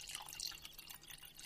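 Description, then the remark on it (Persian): Water drips and trickles softly in a quick, uneven patter as it is served for someone to drink, fairly quiet with no voices over it. “بفرما، این هم آب.”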